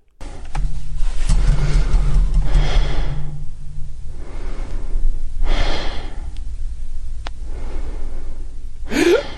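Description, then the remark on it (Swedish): A man who was to narrate an audiobook, fallen asleep at page 136 of the book Natt i Caracas by Carina Sainz Borgo, breathes slowly and heavily in deep sleep, with long rasping inhales and exhales repeating every couple of seconds over a low, steady hum, ending in a brief sharper sound. “Ska vi lyssna på själva sömnen igen bara?”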